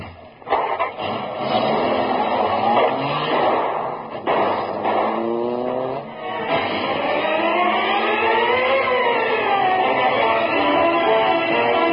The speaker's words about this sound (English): Here, car. Door open. I'll drive.